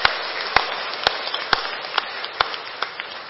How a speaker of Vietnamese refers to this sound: Thì nhân dịp này xin ghi nhận tấm lòng tri ân sâu sắc mà tôi đã tiếp nhận được kiến thức tế học cũng như là kiến thức Phật pháp từ các bậc tôn túc cũng như là các nhà giáo, xin cho một tràng vỗ tay thật lớn để tạ ơn chung.